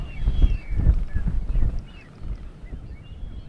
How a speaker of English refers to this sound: The wind blows harder.